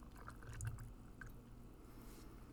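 Whiskey pours into a glass in a soft, steady trickle lasting a couple of seconds, with faint drips and gurgles and no one speaking.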